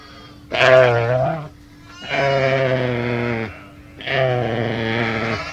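Sheep bleating three times in a row, each call long and wavering with a rich harmonic tone, loud with short pauses between them.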